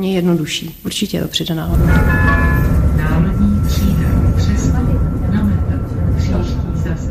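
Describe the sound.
A tram rolls past in a city street in Prague, its loud steady rumble joined by a thin metallic whine from the wheels, after a brief moment of voices at the start.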